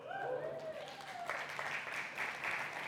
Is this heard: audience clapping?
yes